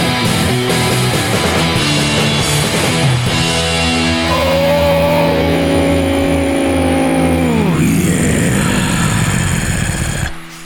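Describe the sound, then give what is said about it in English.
A loud car engine revs, its pitch climbing steadily for several seconds before dropping sharply as the throttle releases, then cutting out near the end. “You know, in this weather, you need your engine to sound like that for about 20 minutes before you go outside.”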